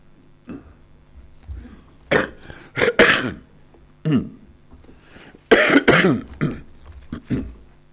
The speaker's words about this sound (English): Well, excuse me if I cough and splutter my way through this. Coughing sounds more or less the same in Scots as it does in English.